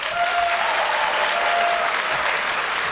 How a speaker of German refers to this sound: Also jetzt mal bitte Applaus für Hacker. Dankeschön, jetzt mal bitte Applaus für Hacker.